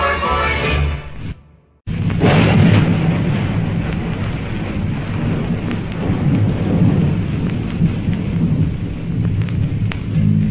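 Heavy rain pours steadily with deep rolling thunder rumbling underneath; after a brief quieter moment near the start, the storm surges back loud and close, continuing unbroken to the end.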